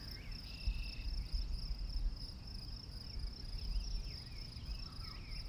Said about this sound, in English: So those are all some manner of birds and bugs.